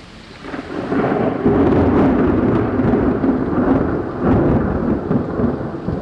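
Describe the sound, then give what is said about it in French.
Heavy rain pours down steadily while a deep, rolling rumble of thunder swells and lingers, loud, with no voices present. “Un silence se fait sous la pluie battante.”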